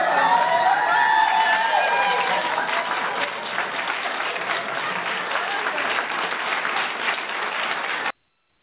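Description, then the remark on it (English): A crowd at the Miss Massachusetts USA 2002 pageant applauds steadily for about eight seconds as results are announced, dense clapping mixed with cheers and a few high whoops, loud and continuous before it cuts off abruptly. “And they clapped for her, and they said, in the new Miss Massachusetts, USA, 2002.”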